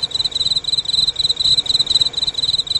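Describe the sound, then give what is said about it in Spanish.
A field cricket chirps at a frantic pace of 435 chirps per minute, as it would at 65 °C in the Mponeng mine in South Africa. Its high, shrill pulses run together into an almost unbroken trill, steady, with a faint low rumble underneath. “De soportar esta temperatura, nuestro grillo de campo sonaría así.”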